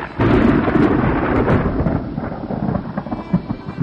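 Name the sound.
heavy rain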